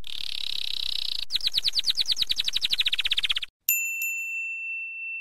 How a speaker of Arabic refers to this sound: من في الداخل؟ سأل الفأر. إنه طائر الكناري.